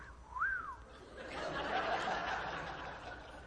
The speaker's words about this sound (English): Like a woman walks by a construction site, and the men are looking at you. Do you know how to whistle? Okay, and the women walk by, and the men might do this.